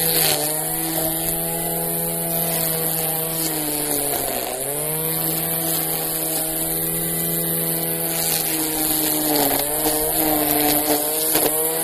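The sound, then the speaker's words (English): A small gas lawn mower engine drones steadily while mowing a front yard. Its pitch sags briefly a couple of times as if under load before recovering, with no voices present. “But as far as the mowing goes, it's pretty easy actually, especially if you let your grass only mow like every other week.”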